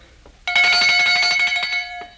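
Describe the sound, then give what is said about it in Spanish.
A small hand bell rings loudly, shaken in a quick steady jingle of rapid clapper strikes for about a second and a half before stopping abruptly. “¿Oye usted esta campanilla?”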